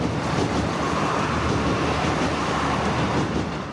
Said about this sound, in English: But just behind the house runs a railway line. The Dublin-Sligo line. The train will be a soundtrack to his personal life.